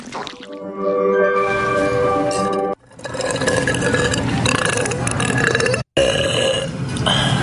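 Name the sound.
burping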